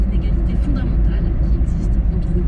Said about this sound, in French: C'est la radio, c'est la route qui longe le lac. Voilà, si vous voulez aller au lac, eh ben, c'est avec les voitures.